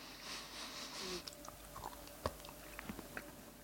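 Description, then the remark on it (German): Chewing of cheese: an opening burst of mouth noise, then a series of small irregular wet clicks and soft smacks as it is chewed, with no talking. “Du hast nämlich jetzt echt so ein Tutti-Frutti-Feeling, wenn du reinbeißt, dass du gar nicht zuordnen kannst.”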